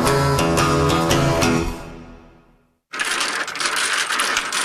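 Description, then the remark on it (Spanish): Music fades away to a brief silence. Then comes a loud, dense clatter of domino tiles being shuffled on a table, a sound familiar to Cubans: continuous rattling, clicking knocks of hard pieces with no voices. “Los cubanos respiramos profundo cuando chocan esas fichas a la voz de... ¡Dale, dale, dale, mucha agua!”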